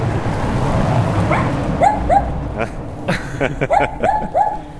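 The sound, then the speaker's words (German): A small dog behind the gate of a butcher's shop, its snout peeking under the gate, yaps in quick, high-pitched bursts, several short barks coming close together against a steady outdoor background rumble. “Guckt unter dem Tor quasi so ein kleines Hundemaul durch.”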